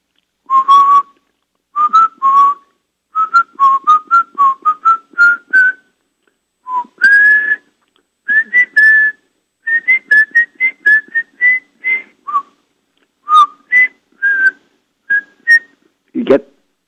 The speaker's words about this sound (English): Yes, that's the first person who's ever responded to me with a favorite song with whistling.